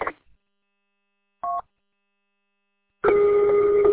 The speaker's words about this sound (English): What the hell? Yeah, right? Like, what the hell would cause that? Very, you know, it's like a generated tone. Pretty sure it's coming out of the guy in Flint's radio.